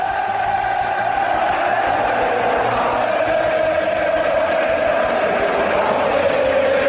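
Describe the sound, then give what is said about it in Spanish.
A packed football stadium crowd of Atlético fans roars and cheers without pause as their team takes the lead, a dense, loud wall of voices with a sustained, chant-like tone running through it for the whole stretch. “Así sonaba el estadio.”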